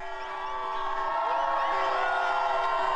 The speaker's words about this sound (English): Thousands of gay rights activists marched in Washington, D.C. today.